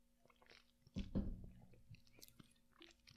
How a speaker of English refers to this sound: And let me take a sip of water here before I read this.